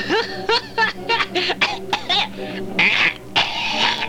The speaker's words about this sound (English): I have to watch that coughing.